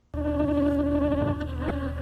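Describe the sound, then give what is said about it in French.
A dense, steady drone of honeybee swarms kept by a honey producer in Bitom village, Cameroon, heard as one approaches them, starting abruptly and holding loud and continuous with slight wavering, no voices present. “C'est le bruit qui vous accueille lorsque vous vous approchez des essaims d'abeilles”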